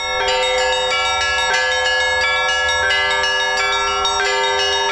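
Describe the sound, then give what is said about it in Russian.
Bells of a mobile church bell tower peal continuously and loudly after the liturgy as clergy and parishioners begin a procession of the cross, several bells struck in a lively overlapping rhythm with strong ringing overtones, filling the whole clip with no voices. “После литургии под звон передвижной колокольни духовенство и прихожане начинают крестный ход.”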